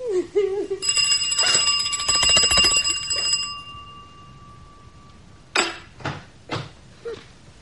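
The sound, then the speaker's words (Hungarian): A call bell rings with a bright metallic trill for about three seconds, fairly loud, then lingers and fades. A few dull knocks or footsteps follow in the quiet. “Tetszett csengetni?”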